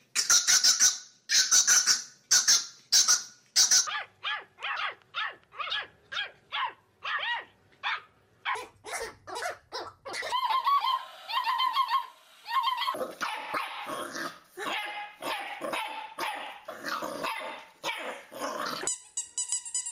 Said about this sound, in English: Coming up next, dogs love barking.